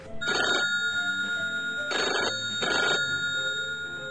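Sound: telephone ringing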